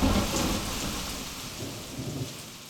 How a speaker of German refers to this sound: Starker Regen und Hagel prasselte auf uns nieder.